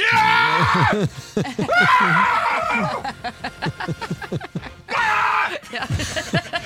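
Loud, excited screaming from a few voices at once, bursts of high yelling and whooping cheers that rise and fall in waves, raw, as people celebrate a stoppage-time goal for Germany during the European Football Championship.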